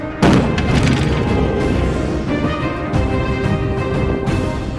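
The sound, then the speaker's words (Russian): A sudden, powerful underwater mine explosion at a depth of 24 metres near Mērsrags, Latvia, demonstrated by the Latvian army, erupts with one deep boom, then a heavy, continuous roar and rumble that holds steady for several seconds without fading much. “в официальном видео латвийской армии за прошлый год рассказывает, что недалеко от Мэрсракса демонстрировали взрыв мины на глубине 24 метров.”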